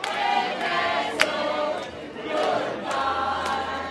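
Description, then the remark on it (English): A crowd of O'Donnell supporters at the Elks Lodge in Dover, watching election returns, cheers and shouts together in a steady, dense roar, with scattered whoops and a few sharp claps rising above the continuous noise. “It was very early with just a handful of precincts reporting, but still, this crowd sensed victory.”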